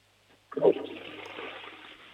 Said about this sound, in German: Dann lauf mal los und zeig mir deine Klospülung. Auf das warten ja immer alle. Mhm. Ich bin gespannt, ob die Klospülung laut ist.